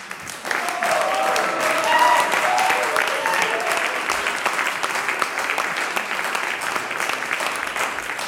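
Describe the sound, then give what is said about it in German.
Sustained applause for the audience at the close of a Klingende Steiermark show, a dense steady patter of many hands clapping that starts abruptly and holds at a strong, even level throughout, with a few brief whoops or voices mixed in. “Jetzt kriegt das großartige Publikum einen Applaus von uns.”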